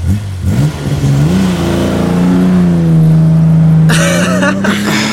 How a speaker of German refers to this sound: Dann ging er zu seinem Wagen, stieg ein und fuhr wortlos davon.